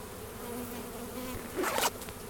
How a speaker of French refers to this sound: J'ai quand même une abeille qui est rentrée dessous. Là. Mais c'est pas grave. Je vais la sortir par là.